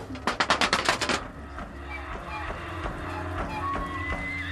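A quick run of about nine sharp, loud wooden claps from the 'clapping clapboards', clapboard house siding played as an instrument at the Music Box Village artists' compound in New Orleans, followed by sparser knocks over a low sustained hum and a few faint ringing tones.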